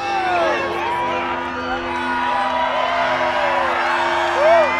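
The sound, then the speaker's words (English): A large crowd cheers and whoops continuously as a solar eclipse reaches totality, many voices overlapping in rising and falling shouts, with a steady low hum running underneath throughout. “Controlled by UV rays, the synth gives up for a moment, but not the crowd.”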